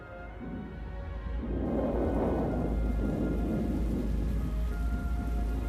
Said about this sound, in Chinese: 哦，下雨了，我的宝贝，那就让我们品尝一下雨的味道吧。